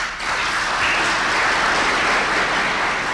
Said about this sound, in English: At the end of the program, there was silence. Then explosive applause.